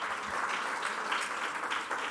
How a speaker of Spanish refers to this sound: Por favor, no aplaudan más. A mis compañeros tampoco.